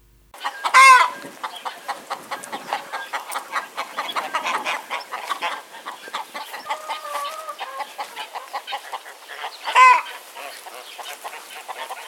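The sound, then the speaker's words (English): A flock of backyard chickens clucks and chatters steadily, with two loud, clear rooster crows standing out, one near the start and one near the end. “about the love that backyard chickens can bring.”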